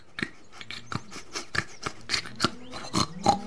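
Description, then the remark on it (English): A pig, Snorkel in a children's story, grunts and snorts in a rapid series of short, rough bursts, about a dozen in a row with no talking. “Then he came across Snorkel, the pig, and Dozy, the black and white cow.”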